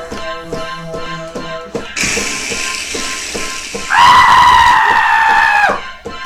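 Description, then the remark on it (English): A woman lets out a loud, sustained scream lasting about two seconds, preceded by a rushing, hissy burst of noise and some tonal sounds at the start. “I heard a lady scream.”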